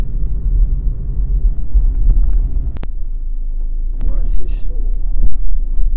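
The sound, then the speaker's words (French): A car engine rumbles steadily from inside the vehicle as the driver looks for a place to park, a deep continuous low drone with a couple of brief clicks, while someone talks over it. “Bon bah c'est pas facile, faut que je trouve où me garer là.”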